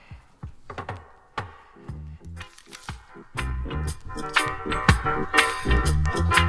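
A dub reggae track with a deep, heavy bassline under sharp, clicky percussive hits, building in loudness after a sparse start; no one speaks.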